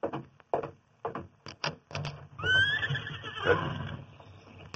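horse neighing and hooves

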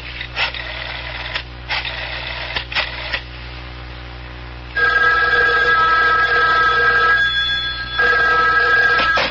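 telephone bell ringing

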